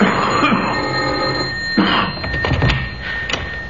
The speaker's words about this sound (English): And into that pseudo-idyllic setting across that bridge, there strode a caller. He rang the doorbell.